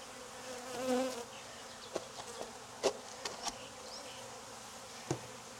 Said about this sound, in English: I mean, well, bees do what bees do.